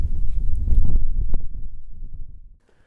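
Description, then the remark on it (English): Wind on a cold day outdoors during a walk buffets the microphone in a heavy, low rumble with some rustling, strongest early on, then easing and dropping away almost to silence just before the end. “So I'm getting a bit cold and it's a bit windy.”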